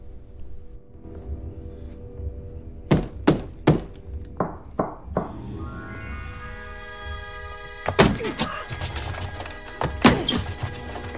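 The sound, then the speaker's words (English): A man bangs a broom against a wall in loud thumps: a quick rhythmic run of knocks, a fainter answering pattern repeating the beat back, then another burst of hard knocks over a steady low hum. “Upon hearing the invisible being scuttled to the wall, he walks over and bangs on the wall with a broom.”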